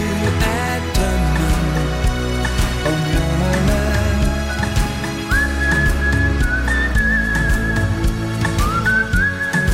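A clear, sustained whistled melody rides over a full band accompaniment, entering prominently about halfway through with long held notes and a few rising glides.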